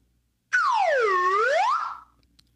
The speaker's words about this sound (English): Can we get a isolated whistle